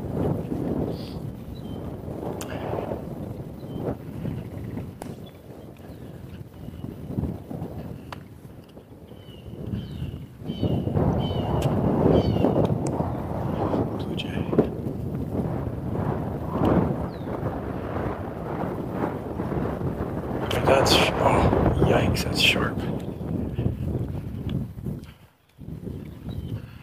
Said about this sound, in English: Wind coming in from the east. Yahoo! Holy cow. That was brisk. It was just a little gust, but cold enough that made my eyes water.